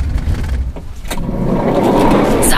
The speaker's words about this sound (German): Ich bin gespannt, wo man uns hinbringen wird. Achtung, der Wagen hält.